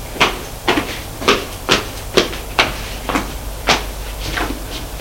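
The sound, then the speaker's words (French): A woman tries a locked door: about eight sharp rattling clunks in an uneven rhythm, roughly half a second apart, fairly loud, with no voices. “La porte est fermée à clé.”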